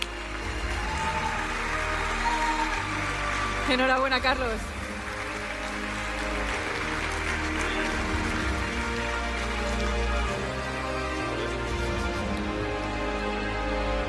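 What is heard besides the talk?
audience applause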